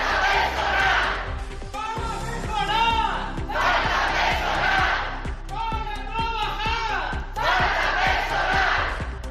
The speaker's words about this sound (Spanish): Son los gritos de los sanitarios que se escucharon ayer a las puertas del hospital. Volvieron a concentrarse para reclamar más personal y la reapertura de la unidad de aislamiento de enfermos respiratorios